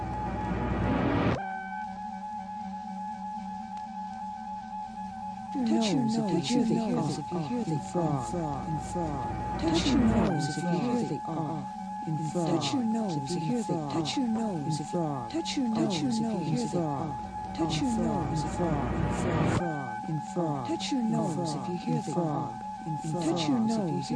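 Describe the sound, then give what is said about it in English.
Frogs croak in a dense, overlapping chorus of repeated rasping calls that pulse steadily for the whole stretch, with a brief quieter pause near the start and a steady hum underneath. “Point to the picture of the frog and listen.”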